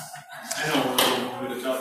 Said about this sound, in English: Oh, those women are rowdy next door. Have to hope they settle down a little.